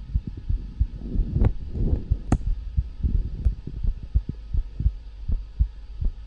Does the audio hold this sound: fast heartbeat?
yes